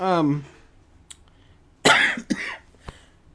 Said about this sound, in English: excuse me. Silence and coughing, podcast gold.